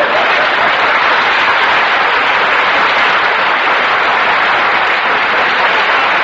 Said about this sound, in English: Now, wait a minute. Don't applaud, please. If you like it, just nod. That's all I want.